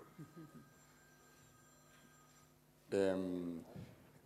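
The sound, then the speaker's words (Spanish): A telephone rings once, a loud electronic trill lasting under a second and cutting in sharply, with brief bits of speech just before and after it. “Teléfono.”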